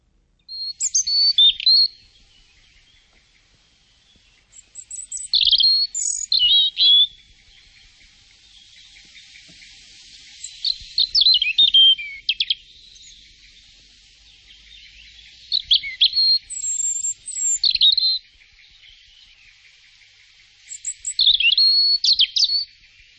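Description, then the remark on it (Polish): European robin song: several bursts of high, thin, warbling phrases with quick trills and slurred notes, separated by short pauses, clear with no voices. “To może posłuchajmy głosu rudzika.”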